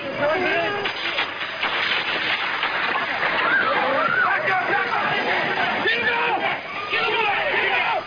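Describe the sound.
Chaotic crowd uproar after the assassination attempt on US President Ronald Reagan in Washington, as a Secret Service agent pushes the president into his car and people scramble for cover: many voices shouting and calling over each other in a dense, steady roar, with occasional engine rumble underneath, on a muffled, narrow-band old recording.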